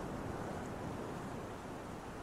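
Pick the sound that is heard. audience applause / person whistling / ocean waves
ocean waves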